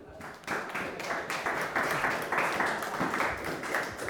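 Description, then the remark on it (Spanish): A crowd breaks into applause after a brief moment, many hands clapping together in a dense, steady wash with a loose rhythmic pulse. The clapping is fairly loud and continues to the end. “Dale un aplauso al que vive.”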